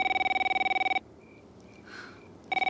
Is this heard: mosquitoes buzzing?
no